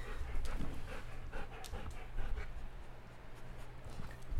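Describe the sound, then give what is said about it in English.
A dog rescued from the ASPCA in Sacramento sniffs in quick, rapid bursts of breathy snuffling and panting, with soft rustling underneath as it gets tangled in wires, and no one speaking. “Well, that's him sniffing.”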